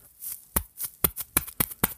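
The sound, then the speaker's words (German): Two pieces of foam rubbed together in a steady rhythm of crunchy, hissing scrapes, imitating footsteps crunching through snow. About eight brisk bursts, with no voices. “Ole reibt die beiden Schaumstoffdinger aneinander.”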